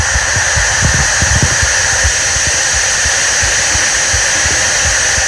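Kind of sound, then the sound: sound effect, white noise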